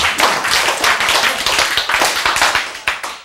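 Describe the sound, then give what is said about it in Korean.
An audience claps steadily, many hands producing a dense, bright patter of overlapping claps that stays fairly loud and even for a few seconds, with no voices over it. “여러분, 박수 누구한테 박수 치는 거예요?”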